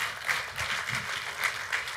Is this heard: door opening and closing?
no